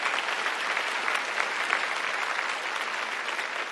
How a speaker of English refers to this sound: And you should applaud for that, not for me, for that.